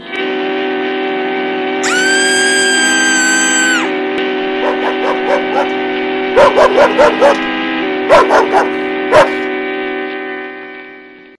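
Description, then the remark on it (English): A Doberman Pinscher named Grace barks in short clustered bursts, a few quick barks, a pause, then a couple more, over a steady droning hum and an earlier high whistling tone. “Got bit by a dog. No, not Olivia. New one. Doberman Pinscher, named Grace, a real meanie.”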